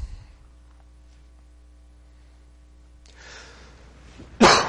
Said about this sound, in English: Y'all, excuse me. Thank you. I've still yet to get over the cough.